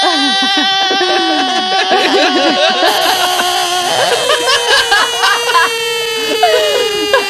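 A frog calls with loud, continuous, high-pitched wailing notes whose pitch wobbles and slides, sounding almost like a crying baby, with quick squeaky chirps near the end.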